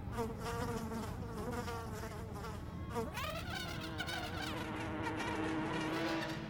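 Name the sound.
bees buzzing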